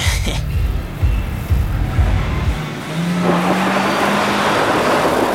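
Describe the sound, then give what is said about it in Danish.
A car engine roars at speed during a long, hectic drive to France. Its loud low rumble shifts in pitch, then settles into a steady high-revving drone with a faint whine riding above it. “Efter 1,5 døgns hæsblæsende kørsel og utallige fartbøder, ankommer Brian banden i Mekong, Frankrig”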